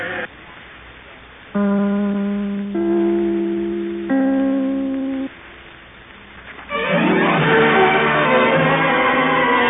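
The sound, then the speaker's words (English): Three clear, sustained network identification chime notes ring out one after another, each bell-like tone fading slowly, followed by a loud burst of full orchestral music. “I would like to ring my chime. This is NBC, the National Broadcasting Company.”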